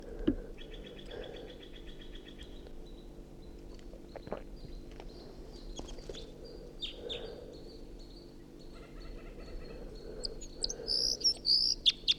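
wild bird singing

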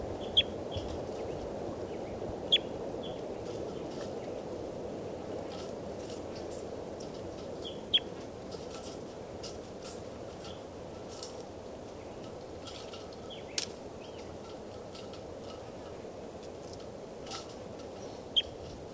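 bird song

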